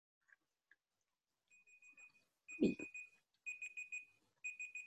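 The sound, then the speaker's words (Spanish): An electronic timer alarm, a bell used to help presenters measure their speaking time during their presentations in a session, beeps in rapid bursts of steady high tones, repeating in short clusters with brief gaps between them, with no one speaking. “Igualmente, para los expositores no se olviden, les estaremos poniendo un timbre para ayudarlos a medir un poco el tiempo durante sus exposiciones. El sonido será así.”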